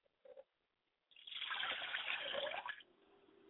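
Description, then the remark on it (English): Liquid libation is poured onto the ground toward the north in a steady, splashing stream that lasts under two seconds, then tapers off, leaving a quiet low hum. A brief soft sound comes just before the pour. “I like to now pour libation down north from which we travel to get to the south.”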